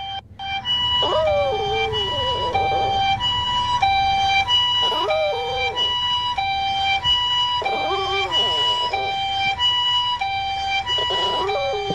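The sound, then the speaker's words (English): A Chihuahua named Gotaro howls in soft, wavering, high-pitched bursts, four in all, over a steady, loud, two-tone wailing ambulance siren that continues throughout. “And it's such a soft little, such a soft little tender Chihuahua howl.”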